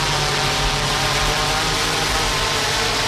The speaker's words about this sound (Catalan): Això que sentiu és l'aterratge amb èxit d'un dron. És una prova pilot on es transportaven mostres sanitàries entre l'Hospital d'Olot i un dispensari de la ciutat.